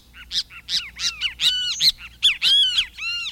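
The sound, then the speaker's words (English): A kiskadee flycatcher calls loudly, a rapid series of harsh, buzzy notes and rising-falling squeals repeated in quick bursts, with no other sounds. “Other species of birds may even choose to nest in the same tree with a pair of Kiskadees to benefit from the bold defensive behavior of this unconventional flycatcher.”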